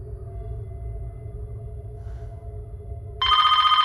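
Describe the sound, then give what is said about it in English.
A quiet low hum, then a landline telephone abruptly starts ringing loud with a rapid, trilling electric bell in the final second. “She looks at a landline phone.”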